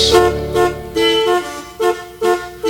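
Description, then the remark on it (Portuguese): Car horns honk repeatedly in overlapping bursts, loud, with a steady sustained tone at first followed by a series of short blasts in an uneven rhythm, like a traffic jam. “Se eu pudesse, eu juro que eu me livrava desta buzinaria toda.”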